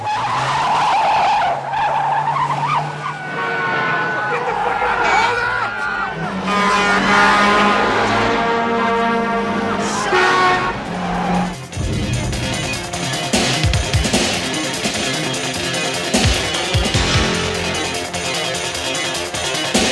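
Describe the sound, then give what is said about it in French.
A car chase scene from a William Friedkin film with William Petersen and Willem Dafoe: tires screech loudly again and again as engines roar, with crashes and thuds in the second half and a few brief shouted voices mixed into the chaos. “et puis, William Friedkin oblige, une nouvelle très grande poursuite en voiture.”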